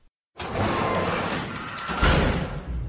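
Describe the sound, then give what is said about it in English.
A heavy metal bunker door that has been shut for a long time is forced open: a sudden rush of harsh, grinding scrape that rumbles on steadily, then a louder low thud partway through before the scraping continues. “Took forever to get this bunker door open.”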